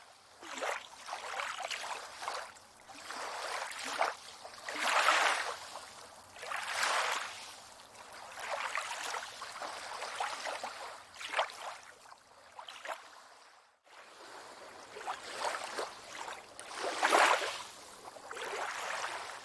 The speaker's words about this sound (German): Ganz leicht und sanft. Spüre die Bewegung des Wassers. Nimm dir einen Moment, um den Rhythmus des Sees zu fühlen.